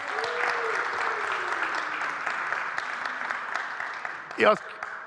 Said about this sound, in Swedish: Vi ska ta fram en av mina killar som jag tränar. Ge han en applåd.